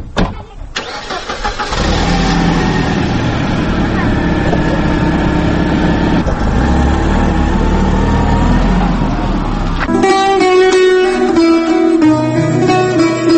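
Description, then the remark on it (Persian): A light car's engine starts up and runs loudly, a steady rumbling drone as the car drives off with its passengers, before music takes over near the end. “می روند معلم حسین و فاطمه با ماشین سبک رو سوار می شوند.”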